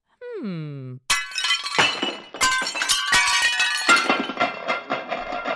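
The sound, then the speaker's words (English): A brief falling vocal cry, then seven dishes smash in a loud cascade: repeated crashes with bright ringing clinks and clattering shards that keep tumbling for several seconds. “Seven less dishes to clean!”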